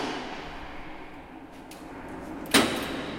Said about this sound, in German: Aber wenn man hier reingeht, hört man gleich so ein bisschen den Hall der ganzen Geschichte. Also hier sieht man dann in die Höhe und hier können wir bis zu 5 Tonnen an Cannabisblüten und Ölen lagern, eben auf konstanter Temperatur.